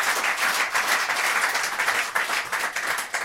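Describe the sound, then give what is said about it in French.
An audience applauds steadily, a dense crackle of many hands clapping at once, loud and continuous for a few seconds with no voices over it. “Le 16e point aussi, qu'on applaudit avant de se quitter aujourd'hui.”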